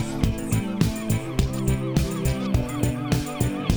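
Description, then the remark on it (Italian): Seagulls in flight over a wide expanse cry repeatedly in a steady rhythm of sharp, rising-and-falling calls. The calls are loud, with no talking. “Strida di gabbiani in volo sull'ampia distesa.”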